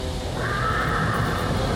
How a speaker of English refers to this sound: Oh, that's a horse!